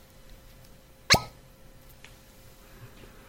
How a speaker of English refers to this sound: That's a hearty cork there. I kind of like that, yeah.